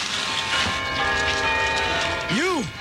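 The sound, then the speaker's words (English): Church bells ring together on Christmas Day in a dense, continuous wash of overlapping metallic tones that hum and sustain throughout, with a brief swooping rise-and-fall sound near the end. “Then Scrooge ran to the window, and as he did, the sound of church bells filled the room.”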